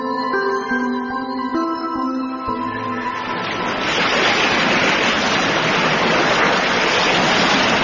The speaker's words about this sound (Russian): Пашка пошел на Катунь пожаловаться родной реке, что не везет ему с идеалом, никак не везет. Шумит, кипит в камнях река, слушает Пашку, понимает и несется дальше.